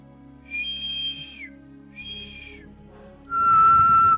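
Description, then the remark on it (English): A person whistles three sustained notes, two higher tones in quick succession followed by a louder, lower held note, clear with faint background hum and no speech. “If I whistle, is it really loud?”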